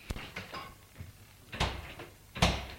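A car's front door is opened and shut as a woman gets in, heard as a few sharp clunks and thuds with brief handling noise between them, and no one speaking.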